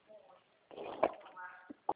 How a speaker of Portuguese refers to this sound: Ai, desculpa, que eu estou numa crise de tosse.